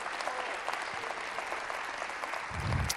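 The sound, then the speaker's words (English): A large audience claps hands in praise to the Lord in sustained, dense applause, a steady wash of many overlapping claps with a faint low rumble near the end and some murmuring underneath. “Give the Lord a hand clap of praise one more time.”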